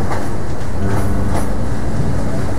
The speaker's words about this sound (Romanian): E atâta lumină și liniște în Transferoviar. E un tren bun de lectură.